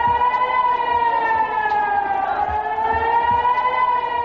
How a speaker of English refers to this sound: People in Sderot have become used to air raid sirens and warnings. Sderot lies within a few kilometers of Gaza in plain view and has come under sporadic rocket fire for the past 8 years. It's again become a target,